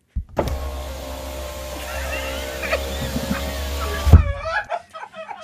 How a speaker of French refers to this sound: Bon, voici. Est-ce que cette vitre de voiture, c'est moi qui l'a fait ou si c'est le vrai son?